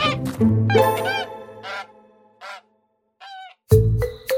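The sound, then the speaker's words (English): A goose honks several times: loud, nasal, harsh calls in an uneven series, with a short quiet pause before a final burst of honking. “geese tend to be quite irritable creatures. It just honked happily as Dalla had carried it off”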